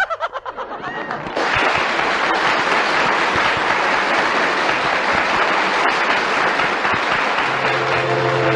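train departing

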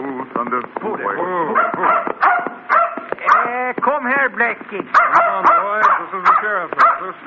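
dog barking and whimpering

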